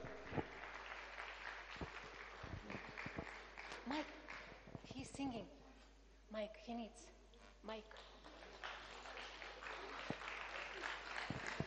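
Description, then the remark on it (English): An audience claps steadily for several seconds as a Russian group is called on stage to perform a dance and a song, a dense crackling wash of applause with voices talking and calling out over it in the middle before the clapping carries on. “Please, big applause for the Russian.”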